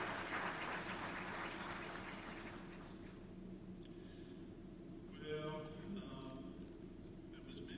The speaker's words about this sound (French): Alors nous les applaudissons, nous les remercions.